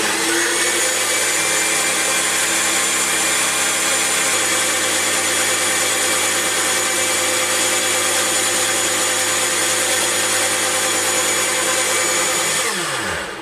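A kitchen blender runs loud for about thirteen seconds, a steady high-pitched motor whir churning food into a spreadable mixture, then winds down abruptly at the end. Nobody speaks.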